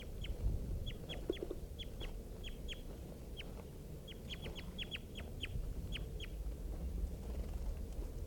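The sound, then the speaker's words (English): Just-captured birds, including a red male, give sharp, high chirping calls in quick irregular bursts, a dozen or more short notes over a steady low background rumble, with no talking. “Just caught one of the birds.”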